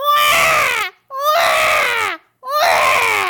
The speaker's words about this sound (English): I most definitely heard crying. Suddenly, the baby cries again.